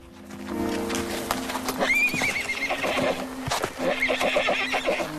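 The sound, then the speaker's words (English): A young horse whinnies in a high, wavering call while hooves clip-clop steadily; the neighing repeats in short bursts over the rhythmic footfalls, with no talking, as the foal is led on a rope away from its injured mare. “He gently leads the foal away from the mare.”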